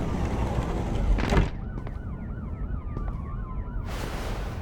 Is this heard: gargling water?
no